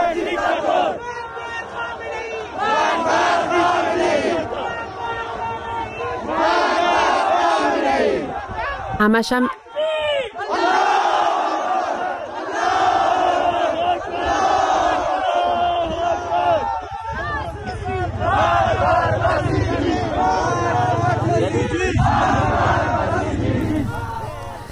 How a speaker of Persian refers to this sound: این صدای مردم معترض در زاهدان بود.